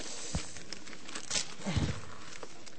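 Wrapping paper crinkles and rustles steadily, broken by a few sharper crackles and rips as presents are unwrapped. No one speaks, and the sound stays fairly soft throughout.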